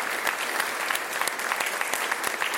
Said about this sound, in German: Ihr Applaus. Dankeschön.